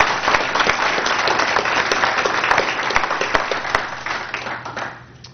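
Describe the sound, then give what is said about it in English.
A crowd applauds steadily for about five seconds, a dense wash of many hands clapping at once, then the clapping thins and fades out at the end. “Unfortunately, she can't be here, but we will get this to her, and I think we ought to give her a round of applause, even though she's not here today.”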